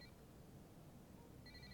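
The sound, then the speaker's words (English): A mobile phone the speaker thought he had switched off rings during his talk with a faint, high electronic ringtone, a brief burst at the start and another beginning near the end, with no one speaking. “My wife gave me that phone last week, and I thought I'd cut that thing off.”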